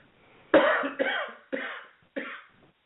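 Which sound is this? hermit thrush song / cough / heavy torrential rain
cough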